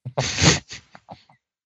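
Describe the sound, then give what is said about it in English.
A voice imitates a sleeping dog, Huckleberry, snoring extremely loudly: one harsh, breathy snort, followed by a few shorter, fading snuffles. “The dog is asleep. Which is good. Sleeping dogs lie, and I don't like that. He is snoring extremely loudly.”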